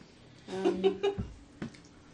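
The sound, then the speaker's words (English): A cat trying to get in gives a few short meows in quick succession, followed by a low thump and a faint bump, as if pawing at a door. No one speaks. “And he's trying so hard to get in. He's trying so hard.”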